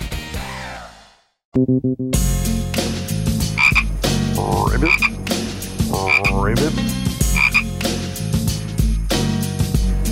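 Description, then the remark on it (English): Loud frog croaking: one opening call, a brief pause, then a dense, continuous run of rhythmic croaks and throaty trills with no talking. “Ribbit.”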